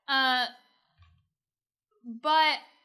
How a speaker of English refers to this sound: I don't think I've ever seen you yawn this much. It's really bad. I don't know why. I slept a lot, but maybe I slept too much.